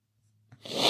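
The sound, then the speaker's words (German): A single sniffle through the nose caused by an allergy, a brief catch followed by a breathy, hissing inhale that swells louder over about half a second, with no talking. “Ach, hey, es tut mir leid, wenn ich so schnief, aber es ist wirklich unfassbar. Ich habe so Probleme mit der Scheißallergie.”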